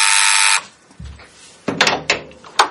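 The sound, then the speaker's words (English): A loud, harsh electric doorbell buzz sounds once for about half a second, followed by a low thump and several clunks and clicks as a door is opened. “Oh, the door's going. Who could it be?”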